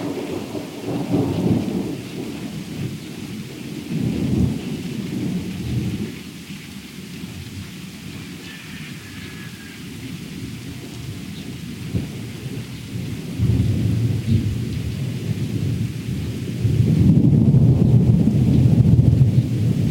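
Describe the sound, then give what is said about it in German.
Thunder following a lightning flash, arriving after a count of five, rumbles low and rolling through steady rain, swelling in loudness toward the end with deep booming energy while a constant wash of rainfall hisses underneath, no voices present. “Und jetzt müssen wir gleich noch einen abwarten. Da kam Blitz.”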